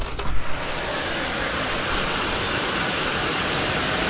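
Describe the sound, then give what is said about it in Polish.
Heavy rain from a thunderstorm pours down in a steady, dense hiss through an open window, loud and constant, with a brief low rumble at the very start and no one speaking. “Jest burza. Otworzę okno.”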